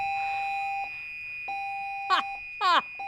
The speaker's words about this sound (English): Oh my goodness. Okay, well, we're having a fire alarm, I believe. So we'll be right back.